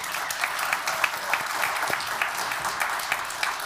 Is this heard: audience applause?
yes